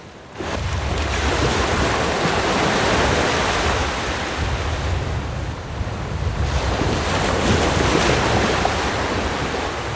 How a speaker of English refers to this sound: They made big waves, and it was difficult to stay on the raft.